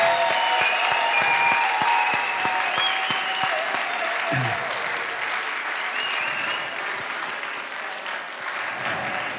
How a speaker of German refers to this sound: Herzlich willkommen nochmal zum dritten Julian Assange-Konzert hier in der Musikbrauerei. Und bitte gebt nochmal einen dicken Applaus für Jens, den Veranstalter, und Jens Fischer-Rodrian, den Musiker des Abends.